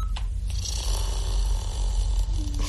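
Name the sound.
person breathing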